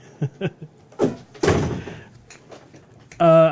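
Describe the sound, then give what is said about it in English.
A couple of soft knocks, then a door swings shut with a solid thud and a short rattle, closed to keep out the sound of dripping; a brief voiced sound cuts in at the very end. “I mean, my point is, and maybe you close that door because the dripping is coming through, if you can.”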